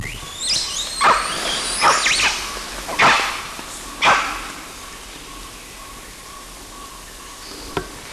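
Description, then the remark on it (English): Rising high-pitched squeals, then four sharp bark-like quist calls spaced about a second apart, from an adult male animal recorded at about 25 meters outdoors, followed by quieter background and one faint click. “the other quists and barks were given by adult male LB”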